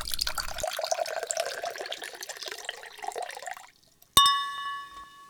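A drink is poured into a glass in a steady gurgling stream for a few seconds, then stops, followed by a sharp clink of glass ringing out clearly.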